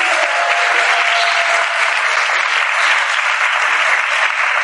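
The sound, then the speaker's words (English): A crowd claps steadily for several seconds, a dense, even wash of many hands at a constant, fairly loud level with no voices rising above it. “So another round of applause for him.”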